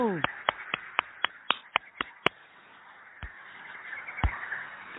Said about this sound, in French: Bravo! Alors je vais applaudir. Bravo!